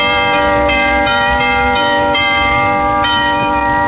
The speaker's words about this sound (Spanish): En la capilla y repique de campanas navideñas.